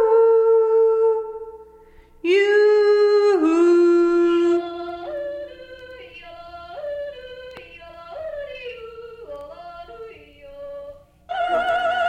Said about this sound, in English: Have you ever tried yelling down a sewer hole? This is what it sounds like.